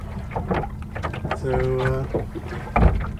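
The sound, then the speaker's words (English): Oars rowing a wooden Drascombe longboat with all sails up, between Little Cranberry Island and Mount Desert Island in the morning, with knocks and splashes, a drawn-out creak from the oarlock midway, and a heavier splash near the end against light wind. “So I've got all the sails up. And I'm rowing it for a bit.”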